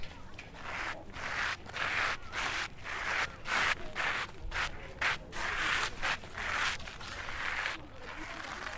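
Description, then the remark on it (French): Dry rustling of bushes and rubbing wood, made as a steady series of short scratchy swishes with brief pauses between them, fairly even in loudness throughout, with no one talking. “Ça, ça sera le son des buissons. Non, doucement. Et du bois un petit peu.”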